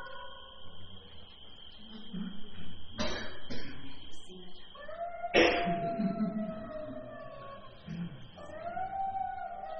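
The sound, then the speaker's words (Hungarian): A recording of jackals played through a projector: drawn-out, wavering high wails that slide up and down in pitch, broken by a few sharp, loud yapping barks around the middle, over a steady background murmur. “Van elég ijesztő hangja van, nem? Olyan, hogy huhog is, meg nem is, meg ugat is.”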